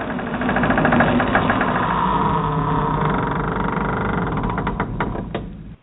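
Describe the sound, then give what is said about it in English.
A heavy vault door being opened: a loud, steady mechanical rumble and grinding with rapid clanking ticks, running for several seconds before cutting off abruptly. No voices. “In fact, I want to take a moment and go back and open up the vault to see if we still have a few more questions that might be out there.”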